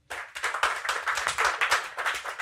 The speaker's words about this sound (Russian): Блядь, самые грустные аплодисменты, да, слышали это?